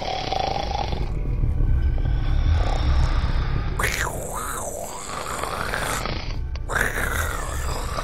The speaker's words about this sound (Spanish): Y se echaron a dormir. La niña se despierta con los ronquidos.